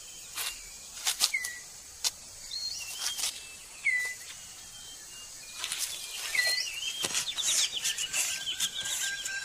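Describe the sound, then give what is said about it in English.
A male six-plumed bird of paradise tidies up his display ground in a forest: scattered sharp rustles and flicks of leaf litter, with chirping bird calls and soft forest ambience around them. “That leaves the male six-plumed bird of paradise with time to concentrate on other matters, like tidying up his display area.”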